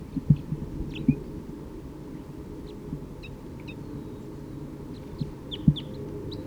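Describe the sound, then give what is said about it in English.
Short, sharp alarm calls of a wild bird repeat irregularly from the trees, over a steady low rumble with a few soft thumps. “Vocalization of a wild bird from the trees here.”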